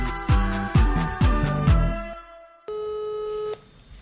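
A telephone ringing tone on an outgoing call to a loved one: one steady, clear electronic beep lasting about a second, after a short musical stinger of punchy descending drum hits. No one speaks.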